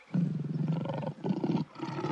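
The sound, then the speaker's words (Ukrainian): A lion roars loudly in two long, rumbling bursts separated by a brief pause, the growl pulsing and throaty, with no voices alongside. “Трапил однойчи на гэты луг леў.”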